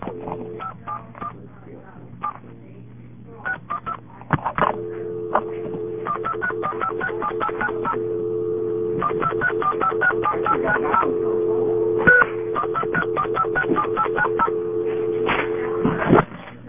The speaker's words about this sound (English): This is Bell System, number 5, crossbar, touch tone. I'm at a home phone.